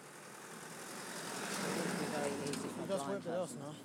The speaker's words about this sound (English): There's a car coming. Over. These lanes are so narrow, I'm just talking to Audio Boo. There's not room for people and a car or two cars, are there?